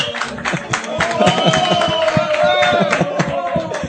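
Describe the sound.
A crowd applauds steadily for about four seconds, dense overlapping claps mixed with cheering and whooping voices, loud and sustained throughout.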